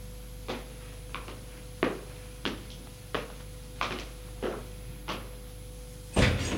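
A door is unlocked with keys and opens as a man comes home. A run of evenly spaced clunks leads into a louder, fuller burst at the end, over a steady low hum, with no one speaking.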